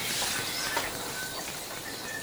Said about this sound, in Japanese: 雨の音聞こえますかね。あとその雨音に負けず野鳥たちの鳴き声聞こえますでしょうか。いつも通り自宅のテラスからこの番組をお届けしています。